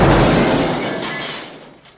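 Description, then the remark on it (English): A window smashes in one loud, sudden crash of breaking glass, the harsh shattering noise fading steadily over about two seconds with no voices. “Now that was just an innocent window and you saw what I did to that.”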